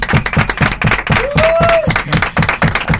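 Applause in the studios of Radio UMH, welcoming a guest: steady, rhythmic clapping with sharp, evenly spaced claps for about three seconds, and a brief tonal whistle rising and falling midway. No one speaks.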